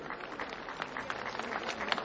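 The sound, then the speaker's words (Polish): Steady audience applause for the Zajazd performers, artists and actors, a dense crackle of many hands clapping at once, holding an even level for about two seconds with no voices over it. “Prosimy na lewą stronę i brawo dla Zajazdu, dla wszystkich artystów naszych wspaniałych, aktorów wspaniałych.”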